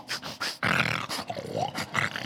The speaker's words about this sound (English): And Haggah is a Hebrew word that also means it's the yummy noises that a lion makes when it's eating. Did you hear that?